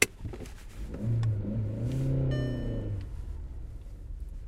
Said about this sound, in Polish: Wykonując zadanie trzecie, ruszanie z miejsca do przodu na wzniesieniu, obowiązkowo musi pan użyć hamulca postojowego. Ręczny zaciągnięty. Proszę bardzo.